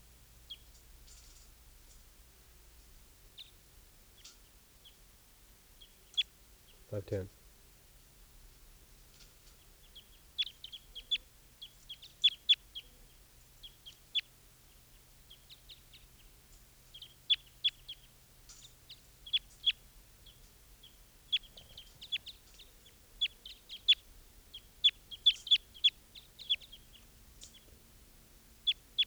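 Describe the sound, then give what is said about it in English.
Wild birds call in short, high-pitched chirps, two of them looking down at decoys and pine cones, bird 395 calling, scattered irregularly and growing busier in the second half, with one brief low thump early on and no talking. “Five ten here, and there are two wild birds here, looking down at the decoys.”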